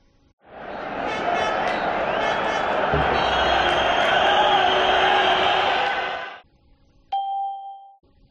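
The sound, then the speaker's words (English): A loud, dense roar of a football stadium crowd on television, steady for about six seconds before cutting off abruptly, followed by a single short, clear tone. “They're watching football.”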